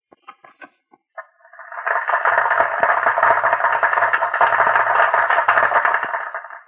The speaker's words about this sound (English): Since the time we talked last night, Mrs. Crow, I have had a chance to record on this tape machine a crowd applauding. Now, will you kindly listen and see if this is what you heard?